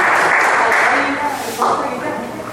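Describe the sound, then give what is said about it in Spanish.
A crowd applauds a musical group being welcomed to perform a song, steadily and loudly, a dense wash of clapping that holds for a couple of seconds with a brief swell near the end. “Un aplauso para ellos.”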